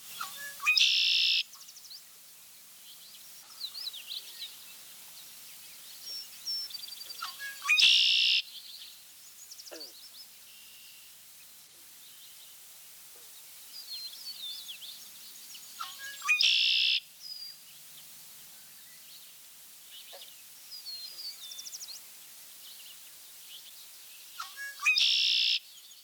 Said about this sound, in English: A widely recognized bird song is that of the red-winged blackbird. The male's most familiar phrase is a distinctive "conkeree."